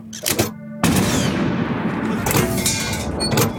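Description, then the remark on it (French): A short crack is followed by a heavy blast from a 75 mm cannon that erupts into a loud, sustained rumbling roar. Powerful, with no voices. It is fired by one of Leclerc's artillerymen, Captain Secaldi, facing the fortress of Koufra in the desert. “Et il va faire tirer par un de ses artilleurs, le capitaine Secaldi, en bougeant très vite le canon à différents endroits pour donner l'impression aux Italiens qu'ils sont cernés.”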